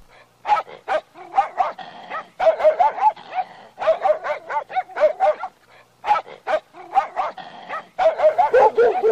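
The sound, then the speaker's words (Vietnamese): A pack of dogs barks in a dense, overlapping chorus, loud, with rapid bursts and a few higher yips mixed in, pausing briefly before starting up again, as they surround Chị Dậu. “Đàn chó cứ vây kín chung quanh chị Dậu như quân đèn cù.”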